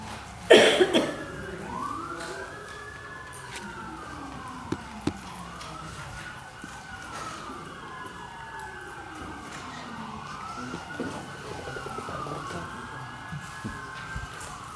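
Emergency vehicle sirens pass by, wailing through repeated rising and falling sweeps, steady and fairly loud, with traffic rumble underneath and a brief thump near the start.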